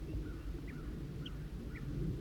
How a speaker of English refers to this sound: Chitter by the female.